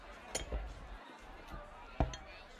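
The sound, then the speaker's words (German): Beer glasses clink together in a toast, two sharp knocks about a second and a half apart, with faint chatter and murmur underneath. “Prost. Cheers.”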